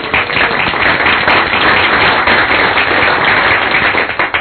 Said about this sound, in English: Can we do a round of applause on the award? Certainly. Yeah.